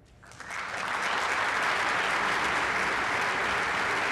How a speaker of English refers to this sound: Applause for Chuck Grassley in the U.S. Senate being sworn in as President pro tem of the U.S. Senate.